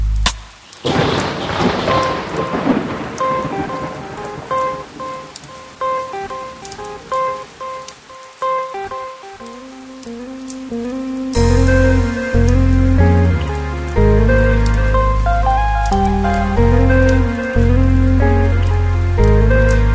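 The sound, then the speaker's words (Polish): Steady rain patters outside a window under soft, chiming music, clearest in the opening seconds, before a deep bass-heavy beat kicks in halfway through and carries on to the end. “Łapiesz, kiedy za oknami ten deszcz kap kapie.”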